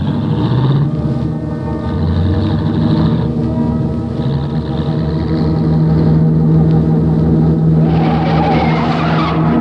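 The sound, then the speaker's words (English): A car roars down a straightaway on a stunt trial run, its engine droning loud and steady throughout, then surging with a rougher, noisier rush near the end. No one speaks. “So they start for the far end of the straightaway.”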